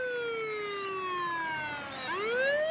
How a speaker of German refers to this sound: Ab und zu Sirenen. Der gepanzerte Geländewagen eines ausländischen Diplomaten rast vorbei, gefolgt von einem Pickup voll schwer bewaffneter Polizisten.